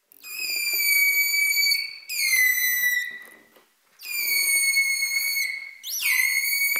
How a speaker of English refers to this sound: Making that louder call takes more energy. Holt and Noren found that when the dolphin was whistling harder and louder, its metabolic rate rose by up to 80% above normal resting levels.